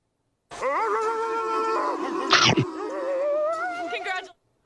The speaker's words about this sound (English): I haven't seen a dog that fierce since the one in Eagle River bit through my pant leg.